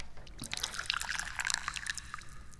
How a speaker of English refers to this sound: I am the chairman of the Dubious Goals Committee, and I'm the guy who pours the tea.